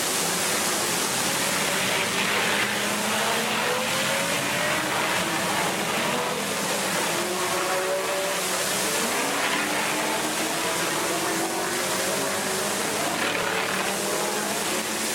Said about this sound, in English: The Essex Wire Cobra lays rubber. Let's ride a while with Bob Johnson up the Simonette straight.